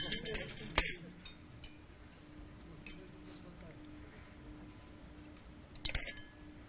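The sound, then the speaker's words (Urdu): Bright metallic clinks of spoons tapping three drinking glasses in a game-show round, a cluster of sharp rings at the start and another near the end, with a faint sustained tone and low murmuring voices between. “یہ چمچ موجود ہیں، تین گلاس، انتخاب ایک ہوگا.”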